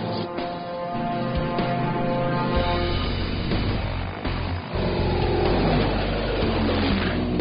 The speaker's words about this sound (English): Now in its 40th year, Joe's company flies planes from a bygone era. Powered by piston-driven engines, these planes were built before the jet age.